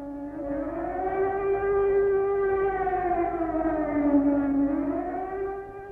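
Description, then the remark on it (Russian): An air raid siren sounds an alert during a night in October 1941, wailing continuously for several seconds, its rich, steady tone slowly rising and then dipping in pitch. It stays loud throughout, with no voices present. “Но без 5:07 объявили тревогу.”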